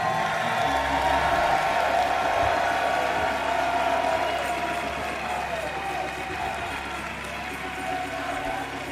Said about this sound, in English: Everybody that believes it and has had your life radically, irreversibly changed by Jesus Christ, jump up on your feet, clap and shout.